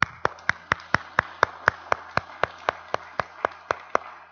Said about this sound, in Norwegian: Vi klapper for Kåre.